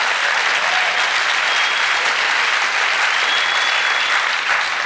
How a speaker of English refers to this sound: Go ahead, give the Lord a great clap offering.